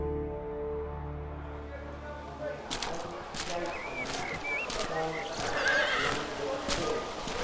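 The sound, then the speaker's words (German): A horse near the stables at a racetrack lets out a loud whinny, followed by a run of sharp hoof clip-clops on a hard surface, with a few faint bird chirps in the background. “Ich fuhr hinaus, parkte hinter den Ställen und ging zum Clubhaus.”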